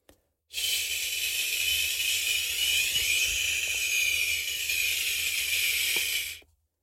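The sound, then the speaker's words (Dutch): A person makes one long, steady hiss lasting about six seconds, bright and airy. Its tone subtly shifts and bends partway through as a small stack of paper is moved toward the mouth, showing how the sound changes as the paper comes nearer. “Ik heb een stapeltje papier voor me. En die ga ik zo dadelijk naar mijn mond toe bewegen. En ik ga het geluid maken.”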